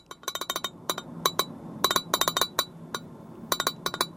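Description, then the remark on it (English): A glass lid rattles against a yellow vintage Pyrex dish holding Brussels sprouts with bacon and chestnuts, inside an electric car on the way to Thanksgiving dinner, in quick clusters of bright, ringing clinks, moderately loud, with brief pauses between bursts and no one talking. “Inside the yellow vintage Pyrex dish with a glass lid, Brussels sprouts cooked in bacon with bacon and bacon grease with bacon and chestnuts, because you can't get enough bacon.”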